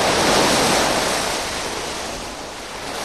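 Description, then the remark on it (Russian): Sea waves surge and foam in a loud, continuous rushing wash that swells early on, then eases slightly and builds again. No voices are heard. “Море вдруг зашумело и спенилось.”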